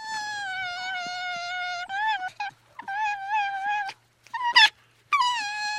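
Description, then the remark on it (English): Philippe, a lively young silver fox born this spring, lets out a series of high, drawn-out whining wails, with short breaks between calls and a few sharp yelps, loud and without any talking. “And in case you're wondering what the fox does in fact say...”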